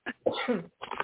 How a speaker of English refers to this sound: I'm trying to clear my throat. Pardon me? No, I was just trying to clear my throat.